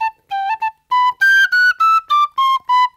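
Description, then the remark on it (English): A tin whistle plays a lively tune of bright, clear notes: a few quick short ones first, then a string of louder sustained tones in an even rhythm, alone with no voices. “The whistle.”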